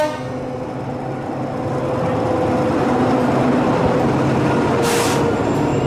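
train

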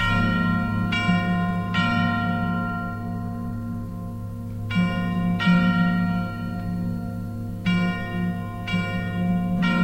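ringing bells

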